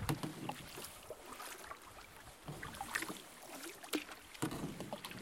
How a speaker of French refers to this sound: Le vent s'est levé un peu. Il aurait dû se lever plus tôt tantôt sur l'île.